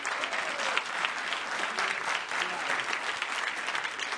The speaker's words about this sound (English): What? That's all the applause I get?